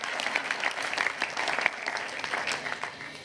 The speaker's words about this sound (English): Now, I am tired, so if you can give me a clap, that'll be helpful.